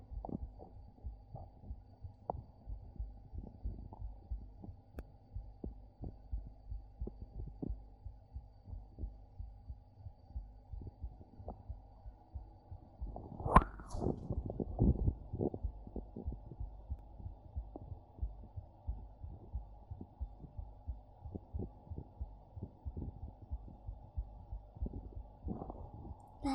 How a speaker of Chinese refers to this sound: 睡不着了，那靠过来听一听妹妹的心跳，一会儿就睡着了好吗？来，过来吧。是不是心跳很快啊？这么一个大美人在我怀里，心跳怎么可能不快？